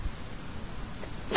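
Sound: a person sneezing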